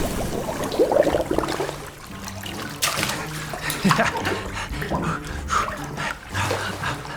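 splashing water

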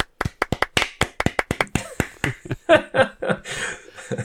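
applause and cheering

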